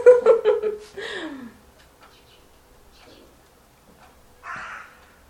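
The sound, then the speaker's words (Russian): A crow caws several times in quick succession, loud, the last call trailing downward; after a quiet stretch, one short, rough caw sounds again. “Такие чайки улетели, прилетели вороны. Всегда короли чайки здесь, и меня перебивали, теперь ворон такая.”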